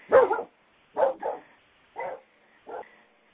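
A male dog barks several times in short, irregular bursts, the first loudest and the later barks gradually softer, with no talking over it.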